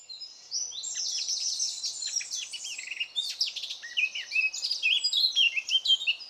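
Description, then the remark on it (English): A Eurasian blackcap (Sylvia atricapilla), a small gray songbird, pours out a rich, fast warbling song, a continuous stream of varied whistled and chattering phrases, clear with no voices. “The best example I know of is the Eurasian blackcap, Sylvia atricapilla.”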